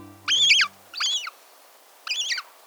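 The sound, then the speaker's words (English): A hungry young gull, tagging along as its parent scavenges a beach for tidbits, gives three thin, piping begging calls, each short and wavering, clear with pauses between, while a faint low musical tone fades out at the start. “We're hearing the call of a hungry young gull, tagging along as its parent scavenges the beach for tidbits.”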